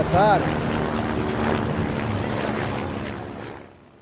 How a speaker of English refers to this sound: There are always helicopters around here, you know, because of these rich people who live just over there and all the soap opera actors coming to work over the road. They're always going around in their helicopters.